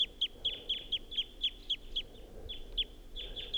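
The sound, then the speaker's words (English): A wild bird perched up in a tall pine above a net gives flight song and song phrases, a rapid, even series of high, sharp chirps, about four per second, briefly pausing before a few more notes; no one speaks over it. “That wild bird is up in the tall pine above the net and was giving flight song and song phrases.”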